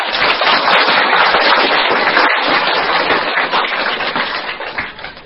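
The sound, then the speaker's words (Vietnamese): A crowd of Buddhist followers at Hoa Nghiem temple in Paris claps for a visiting dharma teacher in a steady, loud round of applause, a dense crackle of many hands that holds for several seconds before easing slightly at the end. No one speaks over it. “Xin quý Phật tử cho một tràng tháo tay.”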